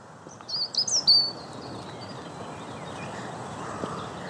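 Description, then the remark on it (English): A quick burst of four or five high, thin chirps from small birds darting among branches by brambles near the start, then they stop, leaving a steady outdoor rustle and hiss on a day with a very slight breeze. The calls sound fairly clear. “I can see some birds darting amongst the branches.”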